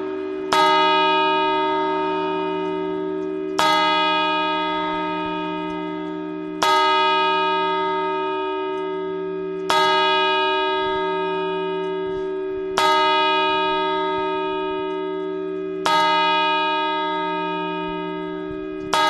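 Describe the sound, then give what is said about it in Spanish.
A clock bell strikes midnight slowly and steadily, about seven loud, resonant tolls roughly three seconds apart, each ringing out and fading before the next. No voices are heard. “Y ahora ya las campanadas.”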